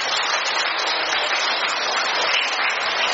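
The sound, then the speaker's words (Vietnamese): A steady, dense round of applause from a Catholic gathering on Saturday, 13 July, the anniversary of the first apparition of Our Lady at Fatima, many hands clapping together at an even volume with no voices heard. “Thưa anh chị em, chúng ta hân hoan chào nhau một tràng pháo tay nồng nhiệt.”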